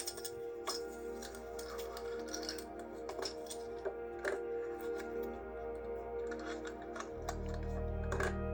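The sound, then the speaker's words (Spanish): Sharp, dry clicks tick out in an irregular series as the dose of insulin is measured on an insulin pen, over a steady low hum that swells near the end. No one speaks. “Alarma de sensor, alarma de glucómetro, ruido al medir la cantidad de insulina en nuestras plumas.”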